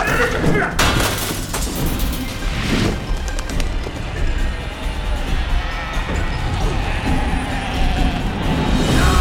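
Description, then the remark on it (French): A door is smashed open with several heavy, booming blows and splintering crashes, loud throughout, over a constant rumbling din with faint voices mixed in. “La porte est brisée, pas de quartier.”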